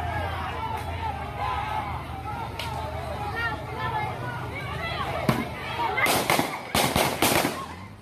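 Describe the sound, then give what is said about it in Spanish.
Several sharp gunshots crack out over a noisy, chattering crowd, first a lone shot, then a rapid cluster of loud bangs near the end while voices keep murmuring underneath; a National Guard member firing at people leaving a gas station in Aragua de Barcelona. “esta gente se fue con disparos encima porque al guardia nacional le enojó que refutaran su autoridad.”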